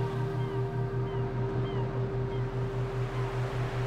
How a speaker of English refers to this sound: I walk towards it. Slowly, steadily, listening to the birds, the seagulls, soaring overhead.